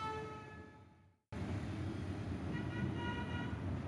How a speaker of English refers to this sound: Yes, that's right. A bus station in Tegucigalpa, the capital of Honduras.